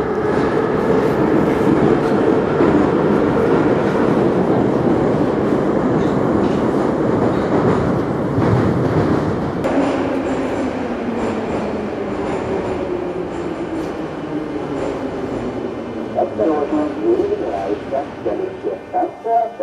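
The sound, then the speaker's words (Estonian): A metro train rumbles loudly near Domodedovo metro station in Moscow, Russia, its electric motor whine sliding downward in pitch as it slows, with a quick run of clattering wheel clacks near the end. No one speaks. “ja kutsun teid kallid kuulajad järgnema mulle Moskvasse Domodedovo metroojaama lähistele, et rääkida edasi missioni teemadel.”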